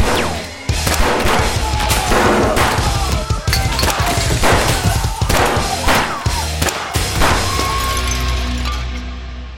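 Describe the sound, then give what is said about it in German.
A rapid, irregular volley of loud 9mm pistol shots from a 15-round magazine, a dozen or more sharp cracks over several seconds, with crashing and shattering debris between them and no voices. “Fakt ist auch, dass sie alle 15 Schuss des Magazins im Laufe der nächsten Minuten abgefeuert haben muss.”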